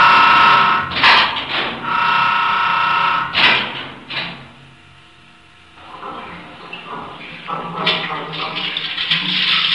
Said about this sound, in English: These sounds are the last a condemned man hears as he enters the execution chamber. First, the slam of a steel door.